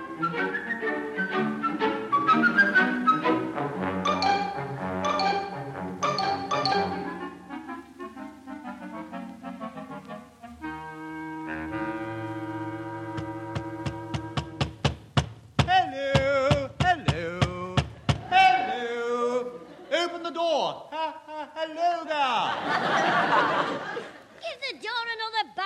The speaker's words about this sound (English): I've been knocking for 5 minutes. My knuckles are all sore.